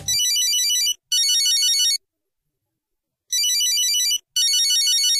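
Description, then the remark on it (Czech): A telephone rings in two pairs of bright, warbling electronic bursts, each about a second long, separated by a pause of silence. The ringing is loud, with no talking. “E kada nas je veverica dovela do pretposlednje krivine, pozvali smo kaktus telefonom.”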